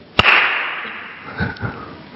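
A single sharp, loud crack of a belt strike demonstrating a father's spanking, done with a belt rather than by hand, like a whip snap, followed by a brief fading hiss and two soft, low thumps. No one speaks.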